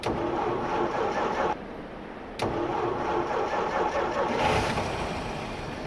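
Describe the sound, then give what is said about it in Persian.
A broken-down car's engine cranks repeatedly without catching, pauses briefly, then grinds through another long attempt, the starter churning loud, with no voices. “ماشینم خراب شد، بیا هول بده.”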